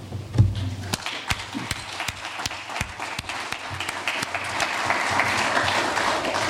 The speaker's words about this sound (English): Could you stand up and get applause from us?